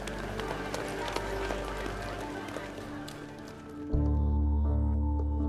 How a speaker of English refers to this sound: The crowd kicked up sawdust as they rushed to the basement kitchen.